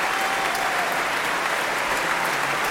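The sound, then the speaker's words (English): Sustained applause from a large Proms concert audience for pianist Hao Chen Zhang, who played Liszt's first piano concerto, a dense, steady wash of clapping, fairly loud throughout, with no voices standing out. “He's getting particularly wild applause from a young girl I can see in the arena who's been lifted onto her parents' shoulders.”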